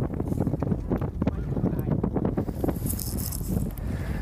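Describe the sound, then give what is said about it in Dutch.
A horse, being approached and petted by children, shifts and stamps, hooves scuffing irregularly, with soft breathy snorts and snuffling near the end over a low, steady outdoor rumble. “Kom, je mag het paard aaien.”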